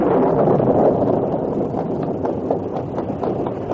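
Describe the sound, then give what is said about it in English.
Storm wind blows at Rocky Point, on a trail north of Dawson City in the Arctic, after darkness has fallen, as a thunderstorm bursts in full force: a steady, heavy roar, full and rumbling in the low end, with faint gusty crackles flickering through the noise. No one speaks. “By the time they arrived at Rocky Point, darkness had fallen and the storm had burst in full force.”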